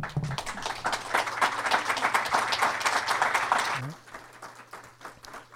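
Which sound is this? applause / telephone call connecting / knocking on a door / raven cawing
applause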